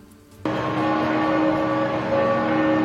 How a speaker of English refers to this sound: That's bells ring in Rome at the St. Mary Major Basilica, where Pope Francis has been laid to rest in a simple underground tomb.